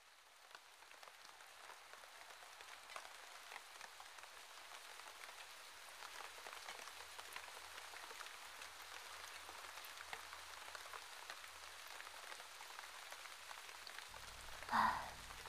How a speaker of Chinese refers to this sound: 真是倒霉，怎么又下雨了？你带伞了吗？